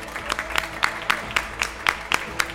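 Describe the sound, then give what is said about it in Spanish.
Audience applause for Denis Rosenthal on receiving an award, with a steady, fairly even rhythm of crisp claps at moderate volume, sounding almost like synchronized clapping, with no voices over it. “Otro aplauso para Denis, por favor.”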